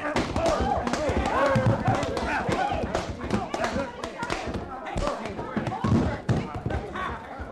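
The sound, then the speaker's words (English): A punch lands with a heavy thud, nearly knocking a man's head off, and he crashes down to the floor, followed by scattered thumps and scuffling, loud, with voices murmuring throughout. “You darn near knocked his head right off his shoulders, you did.”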